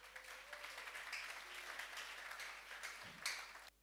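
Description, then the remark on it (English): An audience applauds the media team during a sermon, dense overlapping claps forming a continuous wash of noise that holds level for several seconds, then swells briefly before cutting off abruptly. “Can you clap for the media, please?”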